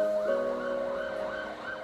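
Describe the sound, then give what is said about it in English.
A Garda (Irish police) car siren wails somewhere outside on the Merrion Road in quick, repeating rise-and-fall sweeps, holding a steady moderate loudness throughout, with a faint traffic hum beneath and no voices. “But all I could hear was a Garda car siren somewhere outside on the Merrion Road.”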